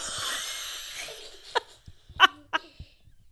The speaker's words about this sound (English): Sounds like a wet cough. You sure you don't have COVID? No.